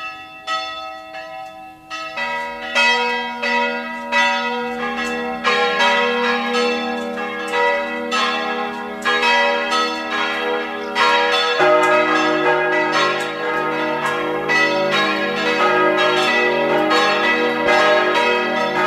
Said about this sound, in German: Es ist 12 Uhr. Sie hören die Glocken der katholischen Stadtpfarrkirche von Neusiedl am See im Burgenland.